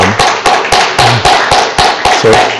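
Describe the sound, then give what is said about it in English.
An audience at a worship service claps hands loudly in praise of the Lord in a steady, quick rhythm, the beats evenly spaced, with a faint low murmur of voices underneath. “So, just praise the Lord with a hand clap of praise, and also just thank him for the worship team.”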